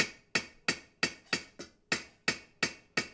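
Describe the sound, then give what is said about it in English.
A hammer taps steadily on copper in an alley of coppersmiths in the old city of Trabzon. About nine crisp metallic strikes fall in an even rhythm, each leaving a short ringing decay, with no voices. “The patient rhythmic tapping of hammer on metal permeates this alley of coppersmiths.”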